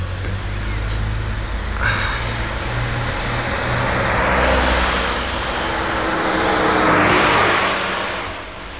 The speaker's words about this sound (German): Da kommt ein Auto aus der Ausfahrt. Ja, Vorsicht. Zurück.